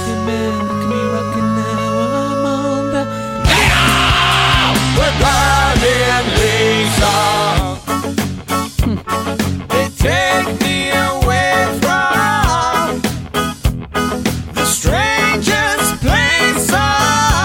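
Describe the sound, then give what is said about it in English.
A loud, dense rock song from 2005 with strained, shouted vocals that slows down into a slower, choppy reggae groove, with sung vocals continuing over the offbeat rhythm. “here's their song called … from 2005 that just has a slowdown”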